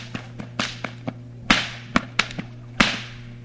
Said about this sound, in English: going to pop two whips over his head at the same time. This is difficult. It's a nice act if you can do it. This is difficult because a lot of people can't even pop one whip at the time. But less two, and especially over your head at the same time.